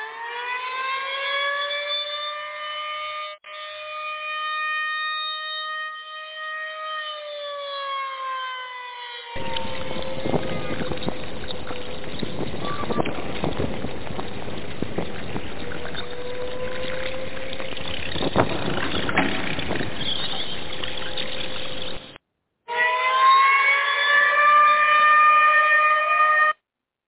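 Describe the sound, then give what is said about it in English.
A siren alarm sound effect: a loud, steady wailing tone rich in harmonics gives way to a long rushing, roaring stretch, then the wail returns briefly at the end. No voices. “That's my fruit bat alarm. That means I am coming to the phones.”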